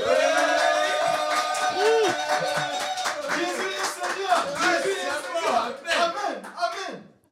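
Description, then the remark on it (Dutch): The studio audience of the Coca Sport World Cup show cheers and whoops, with overlapping high shouts and scattered sharp claps. The noise stays loud and busy for about seven seconds before cutting off abruptly. “Ik wil het publiek dat nu heel veel lawaai gaat maken ook bedanken.”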